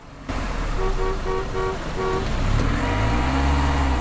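Steady traffic rumble of cars in a traffic jam, with a car horn honking five short, evenly spaced toots, followed by engines revving low and rising as vehicles idle and inch forward. No one speaks.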